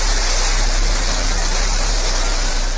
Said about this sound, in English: And here's the moment the women blasted off from the desert in Texas.